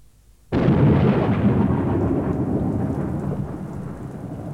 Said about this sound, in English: It was 9 o'clock, and it was raining. I hate the rain.